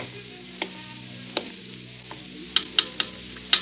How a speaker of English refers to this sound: And what's that? The flood.